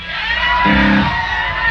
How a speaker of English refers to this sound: Have you ever heard … sing? Well, then you know it's not that pleasant an experience, so I don't know what you're cheering about.